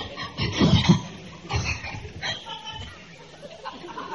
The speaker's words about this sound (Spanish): ¿Cómo chingados tose ahorita, nena? Por Dios. ¿Así es siempre?